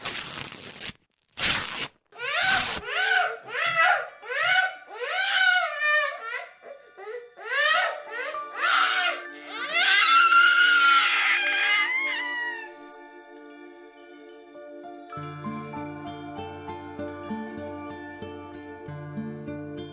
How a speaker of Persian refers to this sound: تنی که باز کردم دیدم بچه جیغ زد.